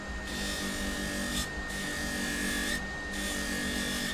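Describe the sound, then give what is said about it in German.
A small grinding machine whirs steadily with a high, constant motor whine, its gritty rasping rising and easing as a piece of amber is pressed against it to grind off its dark crust, fairly loud, with no talking. “Mit einer kleinen Schleifmaschine schleift er von einem Bernstein die dunkle Kruste ab.”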